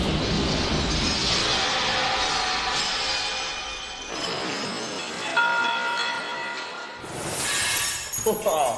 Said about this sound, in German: Ja, das knallt ganz schön. Ja, muss knallen. Wenn wir da mal näher hingehen, dann sieht man, dieses Glas, das ist relativ dünn. Dadurch geht es auch relativ schnell mit dem Ball kaputt.